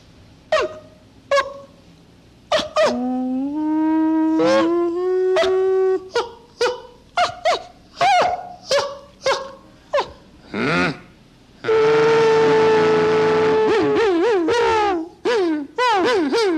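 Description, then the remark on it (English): Coyote-like yips and howls, performed as an audio interpretation of a picture: quick, sharp high cries in an uneven rhythm, a few rising wails, then a long, loud, wavering howl before a last scatter of yips. “Well, being the fact that it sounds somewhat like the coyotes on the desert, it suggests nature.”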